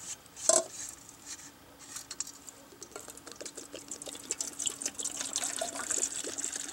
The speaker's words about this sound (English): Alright, now that it's dark and it's time for supper, we're going to get our 2-quart pot here. And the first thing we're going to do is we're going to put a little water in it using our canteen.